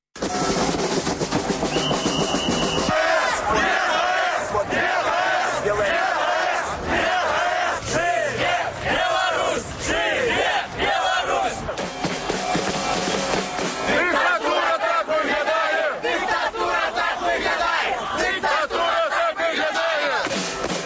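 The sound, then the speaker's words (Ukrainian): A large crowd chants loudly at the Chernobyl Path street rally in Belarus, many voices merging into a dense, continuous roar with rhythmic surges and shouted peaks that never let up for the full twenty seconds. “Ну, а зараз у ефірі гуки з акції.”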